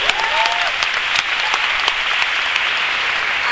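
An audience claps steadily and densely for several seconds, welcoming a store owner who will present a pineapple enzyme product, a continuous wash of many hands with no pauses and no one speaking over it.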